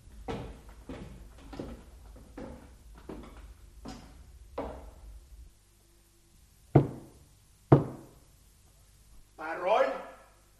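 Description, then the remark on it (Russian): Two sharp, loud knocks on a basement door at the foot of a dark staircase, about a second apart, come after a run of steady footsteps and are followed by a brief creaking sound. “Не забудьте постучать в дверь. 2 коротких удара.”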